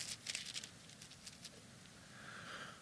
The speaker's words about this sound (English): Give you a moment to find it. I love hearing pages turn. That's really cool.